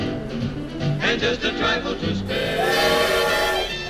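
A steam locomotive whistle wails loudly over chuffing and hissing as the train slowly starts to move, its tone rising into a sustained, piercing, deafening blast that swells and holds through the second half.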